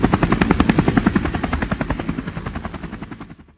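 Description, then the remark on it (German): A helicopter's rapid rotor thumping chops steadily and loudly, then gradually fades as it moves away, with no voices present. “Hört ihr das? Ist das ein Helikopter?”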